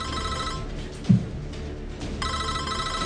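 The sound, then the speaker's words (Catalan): A telephone rings twice, each electronic burst separated by a silent pause, with a brief soft thump between rings, as Lieutenant Colonel Stanislav Petrov waits on the line for someone to answer during a false nuclear missile alarm. “Amb la cara desencaixada, torna a despenjar el telèfon.”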